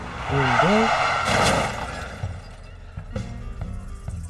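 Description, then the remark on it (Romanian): A car screeches past with a short squeal of tires and a loud rushing whoosh, then fades into muffled background noise with a few faint knocks. “O să te calce mașina.”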